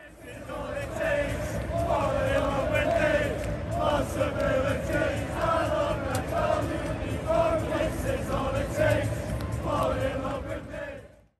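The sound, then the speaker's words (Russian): A large crowd of Liverpool football fans sings together in unison, a loud, continuous swell of massed voices with a steady melodic rise and fall over a roar of background noise. “То есть ее легко петь толпой. И ливерпульские фанаты просто обожают эту песню.”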